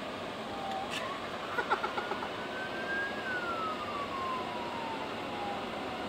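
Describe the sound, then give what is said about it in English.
A high-pitched ATV engine on a highway in Kansas City whines as it revs up at high speed, holds, then slowly drops in pitch, with a few quick sharp bursts early on, all over a steady roar of road and wind noise, the ATV going faster than the cars around it. “Wow, this dude is going faster on an ATV than we can go on cars.”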